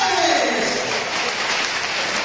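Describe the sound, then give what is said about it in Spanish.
A stadium crowd at a Recre home football match, thousands of fans, applauding as substitute Dani Sales comes on for number 14 Cristian Terán: a dense, steady wash of clapping that holds at an even, fairly loud level throughout, with a murmur of crowd voices mixed in at the start. “Entre aplausos.”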